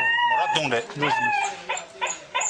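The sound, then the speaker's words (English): An injured dog, hit by a car and in orthopedic pain of the bones despite painkillers, cries: drawn-out, wavering whines that rise and fall in pitch, followed by a few shorter, sharper whimpers near the end. “So he's crying, isn't he?”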